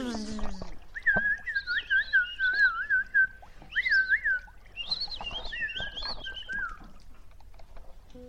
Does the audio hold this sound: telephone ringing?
no